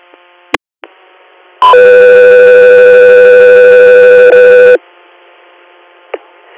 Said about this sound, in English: Echo, 3 Air, stand by for tone.